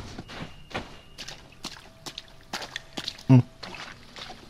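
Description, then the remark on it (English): Water trickles and drips inside a dark cave in a series of irregular, splashy taps, with a faint steady hum beneath and one heavier thump near the end. “It's very dark. Ja, ist okay. I can hear the water.”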